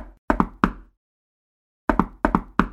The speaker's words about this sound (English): It has like a very signature knock. It's not just like knock, knock, knock. It's like knock, na knock, knock. Na knock, na knock, knock, knock, or some shit like that.